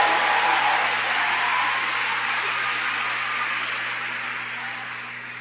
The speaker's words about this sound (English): We had the beautiful brother up here, Clayton. Give Clayton a round of applause.